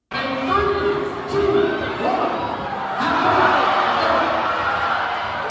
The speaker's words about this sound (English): So they're in a crowd cheering on the kids. As he is devouring them. Little kids are licking the toes of teachers.